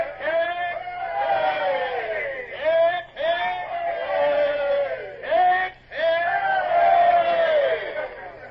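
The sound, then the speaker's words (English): A ship's crew, manning the yards, roars three long, loud cheers in unison for Lord Eastlake as his boat pulls away, each a sustained shout of many voices with brief pauses between them. “Three cheers for his lordship!”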